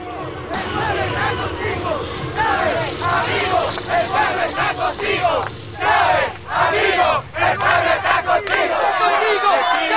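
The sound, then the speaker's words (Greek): A huge crowd of tens of thousands of supporters of Venezuela's president shouts and roars continuously as he addresses them, many voices blending into a loud, surging din with rising bursts of cheering and chanting, heard as if from within the mass of people. “Λίγα 24 ώρα αργότερα, ο πρόεδρος της Βενεζουέλας αναλάμβανε και πάλι τα καθήκοντά του και απευθυνόταν σε ένα πλήθος δεκάδων χιλιάδων υποστηρικτών του.”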